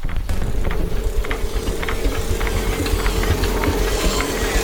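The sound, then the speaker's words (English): A tractor engine rumbles steadily, a deep continuous drone with a faint rattling hum on top as it speeds across a field, no voices present. “The footpath to the river is barely wide enough for the tractor.”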